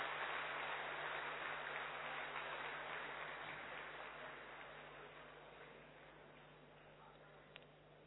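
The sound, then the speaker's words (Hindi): A crowd applauds loudly for Dadi Janki's new year birthday in a dense, steady wash of many hands clapping, loud at first and then slowly tapering off over about eight seconds, with no voices over it. “और एक ताली जोर से दादी जानकी जी के लिए नए वर्ष के जन्म दिवस की जोर से ताली बजाएंगे।”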